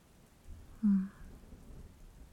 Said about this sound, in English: And the rain's falling and you're so cozy.